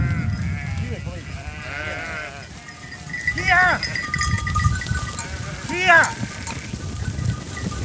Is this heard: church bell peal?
no